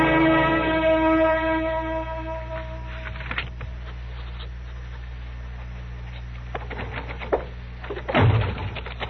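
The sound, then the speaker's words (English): A door slams hard near the end after slipping out of someone's hand, a loud, sharp bang with no talking. Before it, a sustained harmonic tone fades out and a few lighter knocks and rattles are heard. “The door just slipped out of my hand.”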